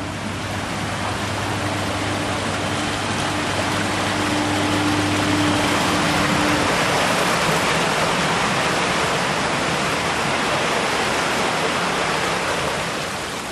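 A loud, steady roar of rushing water pours over a river waterfall, unbroken, with a faint low mechanical hum underneath during the first half.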